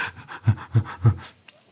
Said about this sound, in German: Und das können Sie beim Zuhören jetzt ganz einfach ausprobieren. Atmen Sie mal alle ganz hektisch, aufgeregt und Sie werden merken, hupsala.